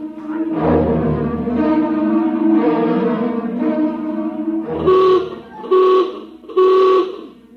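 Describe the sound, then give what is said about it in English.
A ship's general alarm klaxon calling crew to emergency stations blares in a long, harsh, buzzing tone that wavers slightly, then sounds three short, loud blasts in a steady rhythm. “General alarm. General alarm. Emergency stations.”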